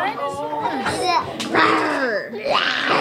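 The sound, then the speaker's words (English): Several toddlers chatter and babble over one another, their high voices rising and falling in excited bursts as they sit around a table molding Play-Doh into dinosaurs at the Unity Council's Early Head Start program in Oakland, an hour before lunch, with no adult voice standing out. “Toddlers are sitting around a table, molding their Play-Doh into dinosaurs.”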